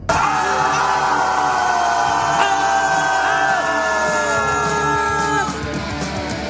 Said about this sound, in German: ich bin im Auto und könnte jetzt gerade noch ein bisschen laut sein, weil auch natürlich die Klimaanlage hier das Ganze ein bisschen runterkühlen will